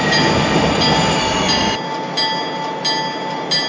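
A train at restricted speed rumbles loudly as it approaches a railroad worksite, then its low roar drops away as it slows to a stop, leaving a steady high-pitched brake squeal ringing with a few faint clanks.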